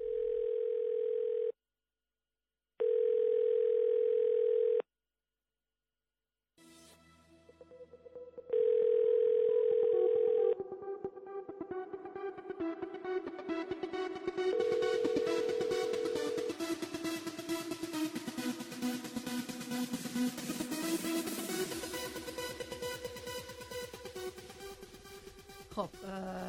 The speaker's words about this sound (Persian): موسیقی مخصوص یا آرم مخصوص برای اعلام پیامک هاست.